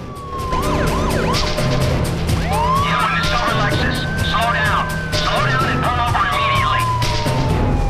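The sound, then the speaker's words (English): A police squad car's siren wails loudly as it chases a car that ran a red light, its pitch sweeping up and down in long rising and falling cycles over a steady rumble of engine and road noise. “A police squad car does a U-turn and chases after her.”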